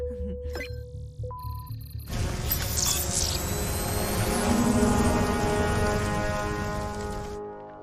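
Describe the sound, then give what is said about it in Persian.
A few short electronic beeps and tones, then a drone's motors spin up into a loud, steady, buzzing whir that holds for several seconds before cutting off abruptly, as the drone is switched to manual control to fly closer to a forest fire. “میریم روی کنترل دستی پهپاد.”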